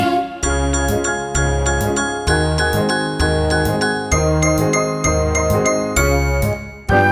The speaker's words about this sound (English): Will you play some black keys now with me?